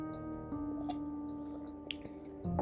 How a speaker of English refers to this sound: Did you slurp that loud enough so that they hear our homey sounds? I like having a cup of water by me.